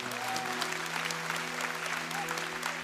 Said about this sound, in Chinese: 阿们，给他们一个的掌声可以吗？